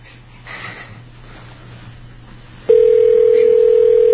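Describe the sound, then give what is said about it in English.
A telephone call to a 7-Eleven in Celebration, a town owned by Disney, rings with no pickup: after a faint, hissy line hum, a loud, steady electronic tone cuts in abruptly and holds to the end. “Maybe Disney called them and said, don't answer the phone because you might give out some secrets inadvertently.”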